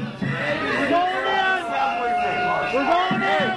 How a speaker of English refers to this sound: For several hours today, the Capitol building was effectively on lockdown. Police held their ground, and at this doorway, a crowd of protesters tried to push and wedge their way past them.